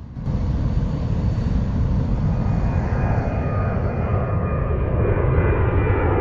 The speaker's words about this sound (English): 1957, an airliner takes off.